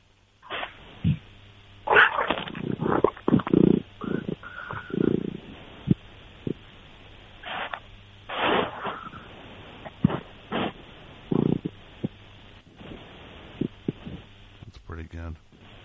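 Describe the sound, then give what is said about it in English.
A cat named Party Girl purring into a phone while she licks it: a low, steady, throbbing rumble that runs the whole clip, broken by louder muffled bursts and scuffling noises. “You get any purrs? Can you hear those?”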